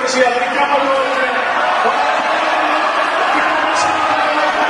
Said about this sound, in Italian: Senti le urla. Sono menati, gente che lanciava le sedie.